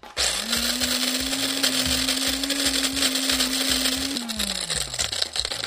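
A prize-draw grinder, turned by the Louisiana Eats producer to pick this week's lucky winner, whirs with a steady motor hum and a rattling, pulsing churn underneath, running for several seconds before its pitch sags as it winds down.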